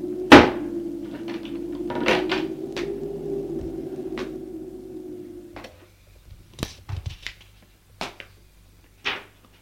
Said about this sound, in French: Elle ouvre la porte avec une grosse clé. Et elle fait rentrer.